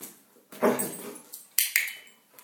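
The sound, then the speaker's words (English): A dog, asked to roar, lets out playful growling noises in three or four short, rough bursts, fairly loud, with brief pauses between them and no one talking. “Can you roar? Yes, you can.”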